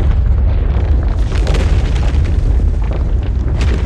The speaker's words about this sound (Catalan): De cop i volta se sent un gran espatec de roques. Un espatec més gran de l'habitual.